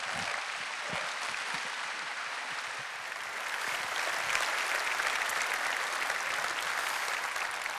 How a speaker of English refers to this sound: So may his kingdom come, may his will be done here in this next generation, in this church, as it is in heaven. Let's give him a round of applause today.